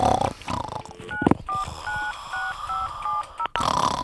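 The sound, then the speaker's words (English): A telephone is dialed to call the Express and Star: a quick run of about six touch-tone beeps, evenly spaced and clear, after a brief rumbling clatter of the handset being picked up. “I'm going to phone the Express and Star.”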